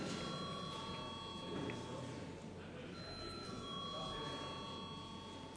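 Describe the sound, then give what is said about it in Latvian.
A parliamentary voting bell rings continuously before a vote on urgency for a bill amending the education law. It is a steady electric tone that holds at an even level throughout, over a low hum of room noise. “Lūdzu, zvanu.”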